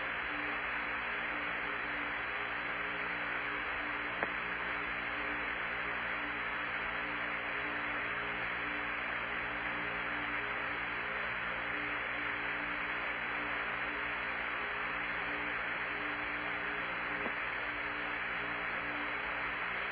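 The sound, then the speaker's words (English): A steady high-pitched hum from the ECS cooling loop of a spacecraft drones on unchanged throughout, buried in a constant wash of static hiss, with no voices and no breaks in level. “Okay, we just picked up a pretty high-pitched hum in the ECS loop.”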